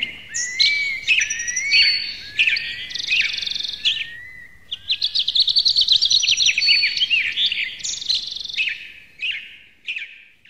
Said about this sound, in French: Moi, le bruit qui me fait du bien, c'est le chant des oiseaux. Le matin, quand on ouvre la fenêtre, les volets, on sent qu'il fait beau et qu'une nouvelle journée prometteuse peut commencer.